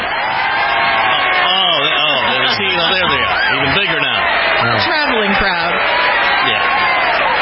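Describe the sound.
A loud, dense crowd cheers and applauds continuously, with many overlapping voices whooping and shouting over steady clapping, sustained at full volume throughout.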